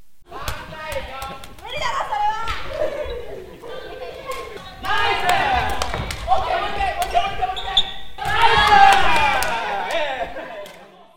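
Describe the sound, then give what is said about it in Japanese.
A team of children shouts and cheers energetically during a practice match, with sharp claps and the impacts of a kicked 14 cm woven plastic ball popping through the lively voices, building louder toward the end. “さらに試合練習になるとチームで声や拍手が出て盛り上がります。”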